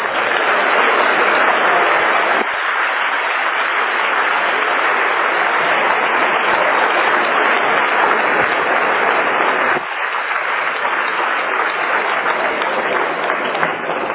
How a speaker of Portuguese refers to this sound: se essas palmas foram para mim, muito obrigado. Mas se vocês receberam a palavra de Deus, vocês poderiam aplaudir o Senhor com o coração.